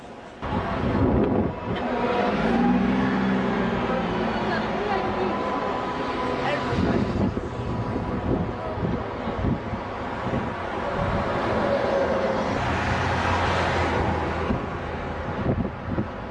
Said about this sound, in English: It wasn't going too well out there on that windy bridge